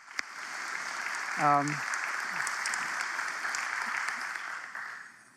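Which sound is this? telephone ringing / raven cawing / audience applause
audience applause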